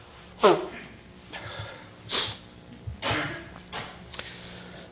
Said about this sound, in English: Excuse me one second, I can blow my nose.